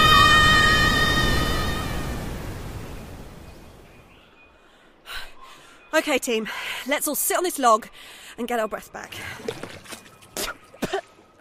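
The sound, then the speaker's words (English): A river waterfall's loud, steady rushing roar, a rumbling like a motorway, fills the opening seconds, then fades away, leaving a voice speaking in the quiet that follows. “It sounds like a motorway. I'll look at the map.”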